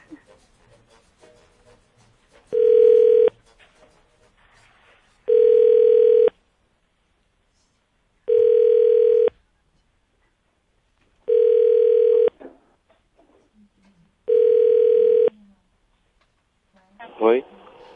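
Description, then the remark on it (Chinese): A telephone ringback tone from a second attempt at a call sounds five times in a steady rhythm, each ring about a second long with gaps of roughly two seconds, loud and clear, with faint voices murmuring between rings. “好，我们再打一次好了。”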